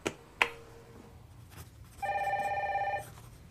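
Two sharp clicks, then a telephone rings once as a call is put through to Conny Knall, a rapid warbling electronic trill lasting about a second, clear, with no talking.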